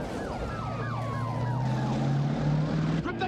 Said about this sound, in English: Petrol guzzling V8s, scintillating car chases.